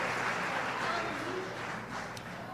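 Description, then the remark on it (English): A church audience at Harvest claps steadily as a clap offering of praise to God, in a dense, continuous wash of applause, moderately loud and sustained throughout, with a faint murmur of voices mixed in. “Come on, one more time. Give God a clap offering of praise.”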